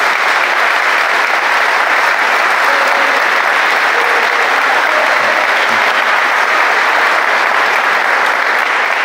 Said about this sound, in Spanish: Por eso yo le voy a pedir un aplauso, pero para todos esos deportistas que nos han representado de la mejor manera.